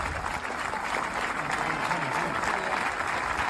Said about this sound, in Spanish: al final le evacúan en una ambulancia desde el propio terreno de juego, y la gente le despidió con esta ovación en el estadio.